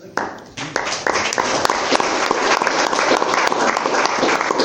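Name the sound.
audience applause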